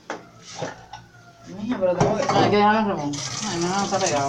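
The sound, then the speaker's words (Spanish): A few light clinks of a rice pot being handled, then tap water starts running steadily into the sink to wash the pot while a person talks loudly over it. “Mira, esto hay que lavarlo. Vamos a ponerlo a lavar.”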